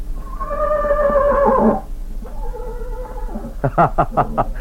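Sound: horse whinnying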